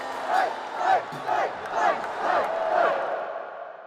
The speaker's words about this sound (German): Es ist ein Auftritt wie der eines heimgekehrten Helden. Unter dem Jubel seiner Anhänger bahnt sich Donald Trump den Weg in seine Familienloge auf dem Parteitag der Republikaner.